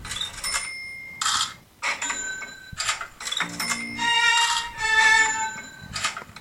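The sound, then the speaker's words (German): A cash register ka-ching rings out several times in bright, metallic bursts with a shimmering bell tone, and a short low hum sounds midway. No one speaks. “Das ist... Katsching.”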